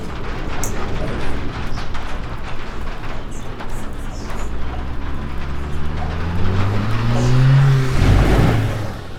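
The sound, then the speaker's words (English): Car engines rumble and rev continuously, with a deep engine note rising in pitch toward the end as a vehicle accelerates, over steady road noise. “Cars.”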